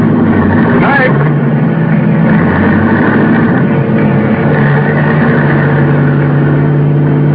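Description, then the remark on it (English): A car engine rumbles loudly and steadily from start to finish, a continuous low drone with a slight shift in pitch as the car starts off and gets moving. “And then getting in, and then we were starting off.”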